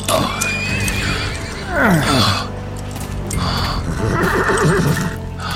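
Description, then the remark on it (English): A horse whinnies, its shrill neigh sliding downward in the middle, surrounded by snorts and a scattering of hoof clops on the ground. “Let me help you on your horse.”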